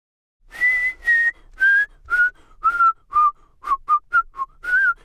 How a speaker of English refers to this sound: You whistle very well